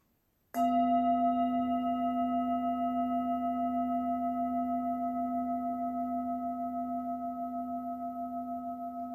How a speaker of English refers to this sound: And when you hear the bell, the meditation will be over.